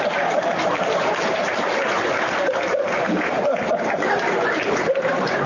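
Dense, steady clapping from an audience after a leader's speech fills the whole stretch at an even level, with a faint murmur of voices and a few chuckles mixed into the noise.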